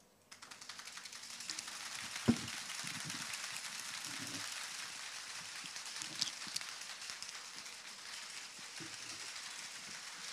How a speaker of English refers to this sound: Wow, I can really tell that everybody actually likes interaction and the clapping.